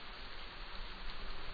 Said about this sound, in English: Moist air colliding with intense heat and mountainous terrain breeds epic thunderstorms. Rainfall rejuvenates the arid land.